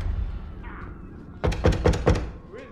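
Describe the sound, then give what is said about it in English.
Death, from Bill and Ted, goes into a house and shuts the door with a heavy thunk, followed by a few quick rattling knocks in rapid succession over a low background rumble. Nobody speaks. “Death goes into a house and shuts the door on them.”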